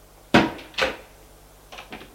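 A wardrobe door is pulled open with two wooden clunks, followed by softer bumps and handling sounds as clean clothes are taken out, without any voices.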